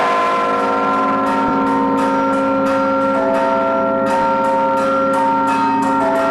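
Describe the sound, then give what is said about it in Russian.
Small and large church bells of the Spassky Cathedral in Penza, Russia, ring together in a dense, continuous peal, the small bells below and the large bells above, quick repeated strikes layered over long sustained tones, loud with no voices. The peal greets the heads of the spiritual and secular authorities. “Перезвон малых колоколов внизу, а наверху звучат большие.”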